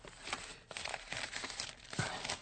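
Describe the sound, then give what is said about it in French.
A paper letter from Mr. Card in America is unfolded, with soft crinkling and rustling in uneven bursts, a few sharper crackles among them. No one speaks. “Hier habe ich einen Brief von Herrn Card aus Amerika.”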